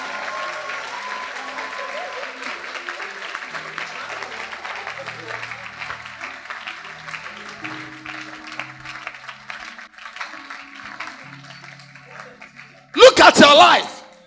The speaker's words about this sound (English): All right, then clap your hands up.